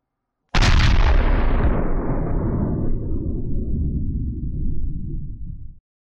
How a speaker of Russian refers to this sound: Какие-то отголоски взрыва пробились даже сквозь шлем. Хотя скорее это просто показалось из-за того, что под Толиком содрогнулся пол, а над ним пронеслась взрывная волна.